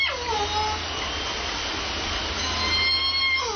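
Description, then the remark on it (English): A J-pod Southern Resident killer whale call, from the whale families native to Puget Sound, sweeps downward in pitch, a whistled, harmonic tone sliding lower, then rising notes follow, all over a steady underwater hiss and low rumble. “J-pod has a downward, sort of goes down in the sound.”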